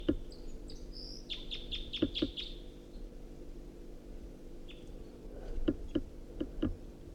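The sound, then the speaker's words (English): A wild bird perched in a tree above a net sings in quick bursts of bright, high chirps, a rapid run of repeated notes, then a pause before another short series of sharp tweets over a low background hum. “Damn, that was a wild bird.”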